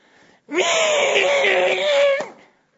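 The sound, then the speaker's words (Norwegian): A person lets out a loud, sustained, strained squeal lasting about two seconds, imitating a pig, with a harsh, wavering high pitch that cuts off abruptly. “Har du prøvd sånn griseskrik?”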